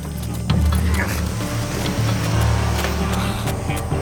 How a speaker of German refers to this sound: Da ist ein Auto weggefahren, aber diese blöden Maispflanzen versperren einem die Sicht.